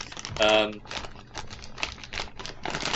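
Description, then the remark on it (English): A paper bag of sweets rustles and crinkles in a run of irregular, crackly bursts, with a brief voiced sound early on. “has a piece of paper, which is very loud. Yeah, that's what my sweets are in, dude.”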